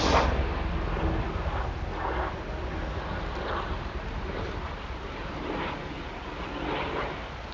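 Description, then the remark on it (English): A steady, heavy low rumble of a helicopter passing overhead, with a broad roaring wash that swells and fades in slow waves. No one speaks. “We'll let the plane go by.”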